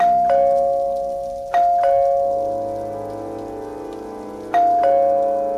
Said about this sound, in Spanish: Llamó al timbre varias veces.